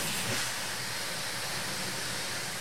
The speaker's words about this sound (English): Is that the shower? Oh, is that what that is? Oh. No, because he would have. This is there's somebody pressure washing. That's what it is. Oh, he's back out there. That's what it is